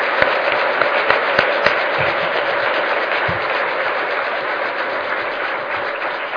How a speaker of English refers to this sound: That is your group of Golden Scholars for 2014. Let's please welcome them and congratulate them with your applause.